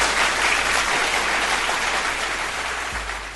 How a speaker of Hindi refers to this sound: तो मनोज बाजपेयी जैसे जो एक्टर्स आज के डेट में हमारे और आपके बीच में हैं, उनके लिए ज़ोरदार तालियां।